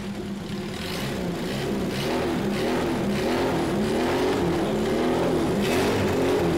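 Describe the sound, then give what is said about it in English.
A car engine overfilled with motor oil revs up, its steady loud drone rising and swelling in pitch over several seconds with no one speaking. “But let's bring the revs up, curious to see what happens.”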